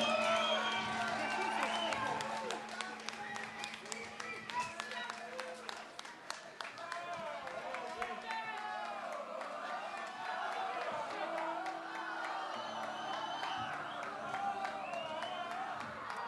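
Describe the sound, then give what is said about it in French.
An audience applauds steadily, many hands clapping in a dense, even wash of sound for about sixteen seconds, with crowd voices and a few cheers mixed in and a low steady hum beneath. “On peut les applaudir, merci.”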